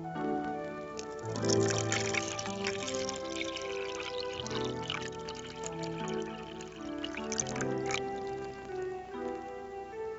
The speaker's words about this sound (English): Yes, she was pouring a cup of coffee.